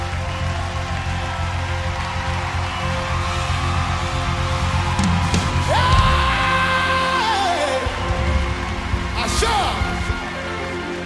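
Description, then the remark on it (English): A crowd claps continuously in a dense, steady wash of sound, with voices calling out and a sustained shout rising above the clapping partway through. “Oh, clap your hands so you keep it. As you clap, you are...”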